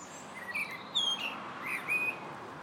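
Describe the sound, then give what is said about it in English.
A blackbird sings in a park, a few clear, fluting whistled phrases, rising and falling in a high register, spaced across a couple of seconds over a steady hiss of background noise. No one speaks. “And that's a blackbird you can hear.”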